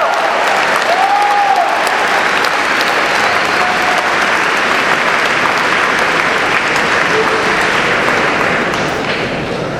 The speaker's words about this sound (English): Let's give Secretary Kander another round of applause.